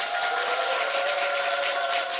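A steady wash of audience applause fills the whole moment, dense and even, with many hands clapping at once and no voices rising above it.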